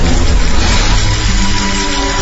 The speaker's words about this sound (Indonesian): Suara mesin air. Tiba-tiba suara mesin air itu terdengar bergemuruh.